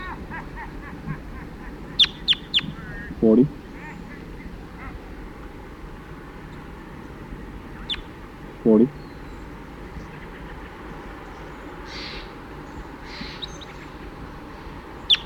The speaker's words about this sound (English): The recording, I hear some crossbills flying over now. 5-7 responding and back. Now 40 calling.